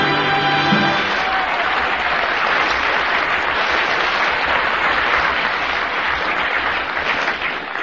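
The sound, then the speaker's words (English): A large audience at a radio comedy show with Dick Bentley and Jimmy Edwards claps steadily and loudly, a dense, continuous wash of applause with no voices breaking through, holding at an even level for several seconds. “Thank you for that spontaneous applause.”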